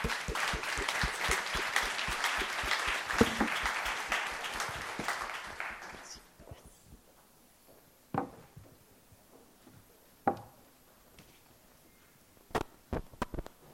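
An audience applauds speakers at an event with dense, steady clapping for about six seconds, then it fades to a few scattered claps and soft background noise.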